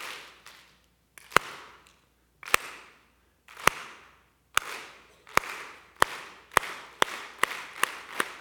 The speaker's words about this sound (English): All right, we're going to clap. All right, let's do it again.